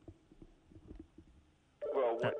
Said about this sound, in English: Oh no! Yeah, I didn't do something. I didn't do the. I didn't turn the phone off, so it's going to sound. I'll have to work on that in a moment. But before we let's take that call just to stop the noise